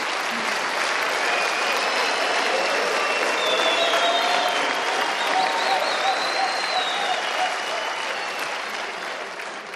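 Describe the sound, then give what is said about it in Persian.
A large crowd gives a standing ovation for about ten seconds, a dense, sustained wash of clapping with a few faint whistles and cheers riding on top, tapering slightly at the end. “تمام قد به افتخارشون یه تشویق هستید.”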